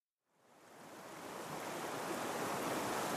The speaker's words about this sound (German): Der Fluss Maroni. Das andere Ufer scheint ganz nah. Man sieht deutlich die Häuser des holländischen Ortes Albina. Es sieht aus, als könnte man mit Leichtigkeit hinüberschwimmen. Aber der Fluss ist voll gefährlicher Strudel.